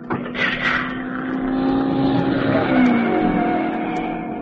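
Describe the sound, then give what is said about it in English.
A loud racing car engine revs steadily on a track, its pitch wavering and climbing slightly as it holds a strong, continuous roar, with no voices. “The car zigzagged along the track as the driver fought to regain control, but Pepina's bullet had done its job.”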